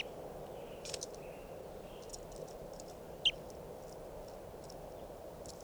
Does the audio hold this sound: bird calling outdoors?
yes